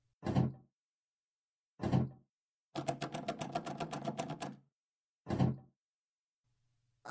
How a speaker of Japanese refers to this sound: あら？あら？扉が開かないわよ。ねえ、あなたちょっと試してみてよ。